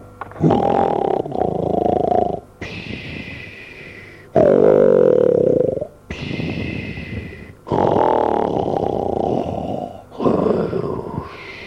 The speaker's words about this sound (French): Ce repas achevé, il revint sous le vestibule où il se coucha et s'endormit en ronflant d'une manière plus bruyante que le tonnerre.